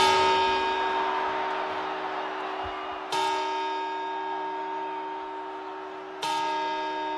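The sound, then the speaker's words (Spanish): Three deep New Year's Eve clock-bell chimes strike at slow, even intervals of about three seconds, each ringing out loudly and fading into a long, humming resonance before the next toll. “¿Para las campanadas más esperadas del año?”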